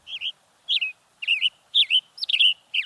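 A Western Tanager sings a series of six short, burry whistled phrases separated by brief pauses, clear with a quiet background and no talking.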